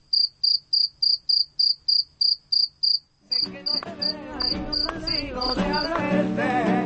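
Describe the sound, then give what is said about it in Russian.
Crickets chirp in a steady, rapid pulse on an evening city street in Jerez de la Frontera, southern Spain, clear at first, then keep going as loud music from street musicians and busy street noise swell up beneath them. “Вечер, и начинается концерт сверчков. Их стрекот слышен на каждой городской улице.”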